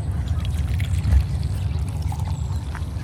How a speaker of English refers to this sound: The morning sounds of the trees rustling, birds singing, and the sound of coffee being made on the stove are ones I long for every day.